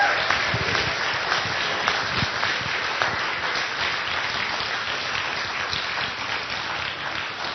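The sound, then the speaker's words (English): An audience at a church service applauds the children from the program steadily, many hands clapping in a dense, even wash of sound that holds at a fairly loud level throughout, with no voices rising above it. “Again, how about one more applause for them?”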